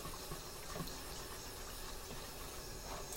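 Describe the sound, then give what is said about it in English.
A steady, fairly quiet hiss and sizzle of water hitting a very hot pan while doing dishes, continuous for the whole stretch with faint watery splashes and no voices. “Don't you just love doing dishes? Especially with a very hot pan.”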